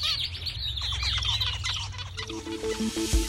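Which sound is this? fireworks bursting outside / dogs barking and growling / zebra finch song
zebra finch song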